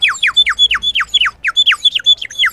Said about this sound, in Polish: Ptaszki na wodę